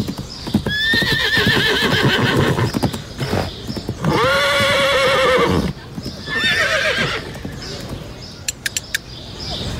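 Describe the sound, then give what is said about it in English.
A racing horse whinnies loudly three times in long, wavering calls, with the sharp clip-clop of hooves sounding between and after the neighs. “Catch wild fish in the blink of an eye and race horses just for fun.”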